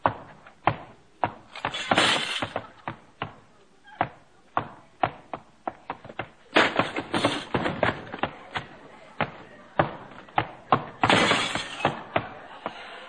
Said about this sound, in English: You knocked over two lamps in the end table, you broke the legs off the sofa, and stuck your foot through the front window.